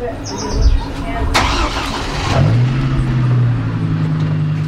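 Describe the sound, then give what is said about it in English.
A car engine cranks and catches, then settles into a steady hum that carries through to the end, as a small caravan of cars with about 20 people sets off from rural Redding, California, on a mild June day in 2018. Faint background voices and a brief high chirp sit underneath. “It's a small caravan's worth of cars with about 20 people.”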